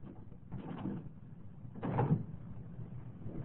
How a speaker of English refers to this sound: Please will you open this door?